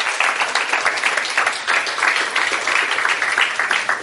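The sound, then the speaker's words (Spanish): An audience at a religious gathering led by a pastor bursts into loud, sustained applause for the Lord, dense overlapping claps filling the space steadily for several seconds with no break. “¿Cuánto le da un aplauso fuerte a ese Señor?”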